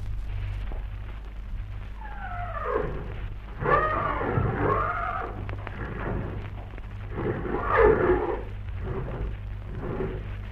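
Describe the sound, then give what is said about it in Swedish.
Horses whinny and snort in a stable full of horses, heard from a stall, with a rising, wavering neigh followed by two louder bursts of snorting and nickering over a steady low hum and faint shuffling. “Tja, det hörs väl att vi finns i ett stall fyllt av hästar.”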